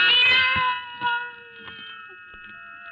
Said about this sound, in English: Then the silence was broken by the faint crying of one cat. The crying grew louder and louder.